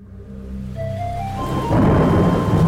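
Low rolling thunder rumbles beneath a hiss of rain that swells steadily louder over a few seconds, becoming a dense downpour. No one speaks.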